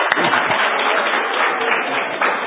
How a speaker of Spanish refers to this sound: Un aplauso a Cristo Jesús.